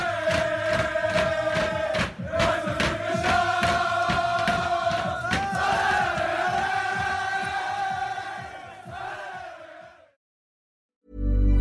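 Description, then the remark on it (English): The Ealing team celebrates winning the championship in its dressing room, spraying champagne: a crowd of voices loudly sings and chants together over steady rhythmic clapping and stomping for about ten seconds, then cuts off abruptly. “And to end it off, because they did win the championship, here are the sounds of the dressing room.”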